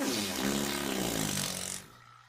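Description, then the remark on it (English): A long, loud, raspy fart from a mother, buzzing steadily for nearly two seconds before cutting off abruptly, followed by a quiet low hum. “Are you hard for your mother's farts?”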